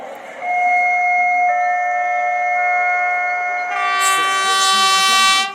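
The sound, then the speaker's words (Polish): A weekend train pulls in at platform one, track one, of Waliły station, with a long steady horn-like tone that swells into a loud, high metallic squeal of brakes near the end. No voices. “Podróżnik pociągu weekendowego na stacji Waliły.”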